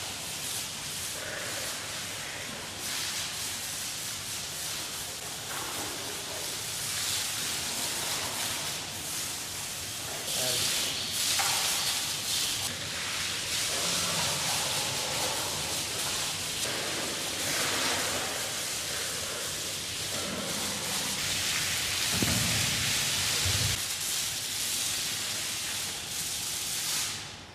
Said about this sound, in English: What a great shower, I'll say. Wow. Now, what do they like to do after their shower?